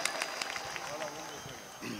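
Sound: audience applause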